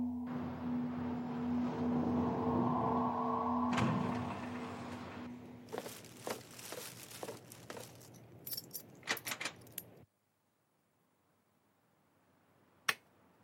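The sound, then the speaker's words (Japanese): A low, steady humming drone fades into a clattering run of jangling keys in quick metallic bursts, then silence broken by one sharp click as the front door opens. “そう、ドアを開ければ。”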